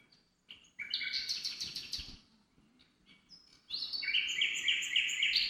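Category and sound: bird, nightingale song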